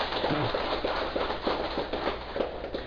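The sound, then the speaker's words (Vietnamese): A Buddhist audience applauds for Dược Sư temple, a dense, even patter of many hands with scattered sharper claps standing out, holding a fairly constant loudness with no voices. “Vỗ chứ, vỗ một tràng pháo tay.”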